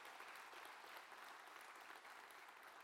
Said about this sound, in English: So let's welcome them. Let's clap for them and welcome them. Thank you for coming.